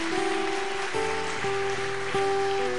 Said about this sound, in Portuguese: Aplauda o Senhor aí, em nome de Jesus.